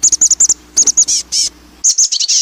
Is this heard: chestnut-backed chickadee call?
yes